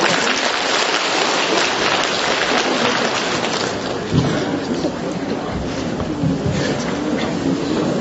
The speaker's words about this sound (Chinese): 那么下面呢，最后一个上台为我们分享心得的是王美玲女士，我们把掌声同样送给王女士。